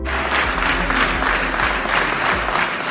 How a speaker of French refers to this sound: Très applaudie, la victoire de la liste Auray-Ville citoyenne le 28 juin 2020 marquait aussi un changement d'étiquette politique et un changement d'atmosphère à l'hôtel de ville.